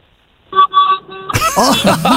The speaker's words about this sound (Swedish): Har du tuta i lastbilstuten?